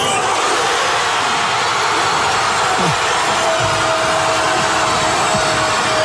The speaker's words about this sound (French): Explosion évidemment de joie dans toute la ville.